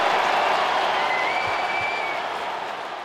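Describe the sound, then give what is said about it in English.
A large crowd at SAP Center in San Jose applauds steadily after Ovechkin's career goal number 887 puts Washington up 5-1 on the Sharks, a dense wash of clapping that stays loud throughout and eases slightly toward the end, with a faint whistle-like tone rising briefly in the middle. “5-1 Washington, and the crowd shows its respect.”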